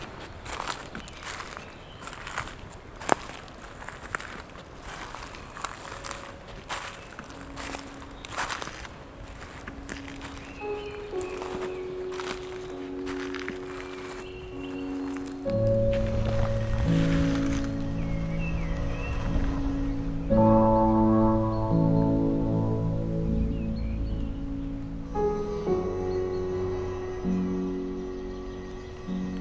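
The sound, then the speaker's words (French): Steady footsteps crunch along the ground of an alpine lawn in an irregular walking rhythm, with faint bird chirps in the background; midway, sustained melodic tones swell in and continue over the steps. “son du sol et des oiseaux à vos oreilles.”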